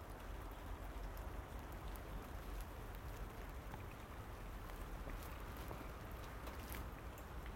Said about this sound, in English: Thank the Lord that's just straight down rain this morning. There's no wind with it, not at the moment anyway.